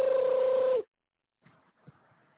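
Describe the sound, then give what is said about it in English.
A loud, steady electronic telephone ring sounds once for under a second aboard a plane, then cuts off into silence before faint, muffled rustling noises. “Hey, bro, you gonna get the phone, man? We on the damn plane.”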